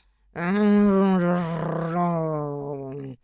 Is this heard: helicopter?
no